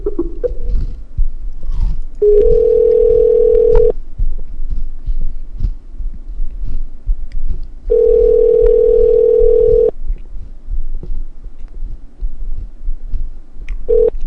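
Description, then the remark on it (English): A steady telephone tone sounds in long two-second bursts separated by pauses, repeating three times over a low, faint thumping rumble, with no voices, as a phone call is placed back to a restaurant. “All right, call him back.”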